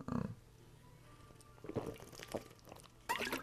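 Water pours in short, splashy bursts, with a brief trickling gurgle and a louder splash at the end, over a faint low hum and no speech.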